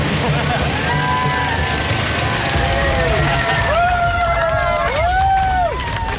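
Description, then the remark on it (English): A computer-controlled off-road buggy's engine revs up and pulls away, its whine rising and falling in a few surges over a steady wash of outdoor noise and crowd chatter. “We got the computer to control an off-road buggy, and that could control the steering. It could control the accelerator, the brake.”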